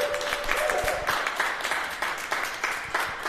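audience round of applause

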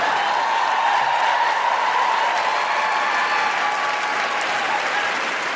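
audience applause and cheering

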